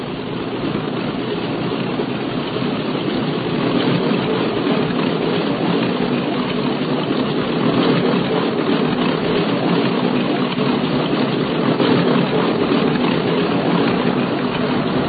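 A propeller airplane engine drones steadily for the whole stretch, a dense, even roar with a slight flutter that never rises or fades. No one speaks over it.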